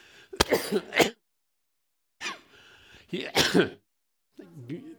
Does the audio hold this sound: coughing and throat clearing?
yes